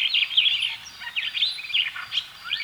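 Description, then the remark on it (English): A continuous stream of busy, chattering starling calls, with rapid whistles, chirps and squeaky trills tumbling over one another, no voices present. “Some of the most beautiful birds in the world are starlings.”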